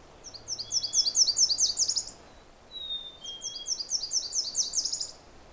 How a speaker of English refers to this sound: And while you hear those warblers, you can also hear a chickadee. Dee dee, dee dee. That's the territorial and courtship song of the chickadee.